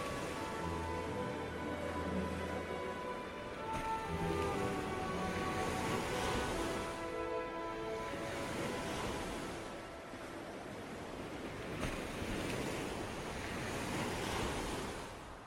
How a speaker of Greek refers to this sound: Κάπου κάπου η ρυθμική ανατριχύλα των κυμάτων.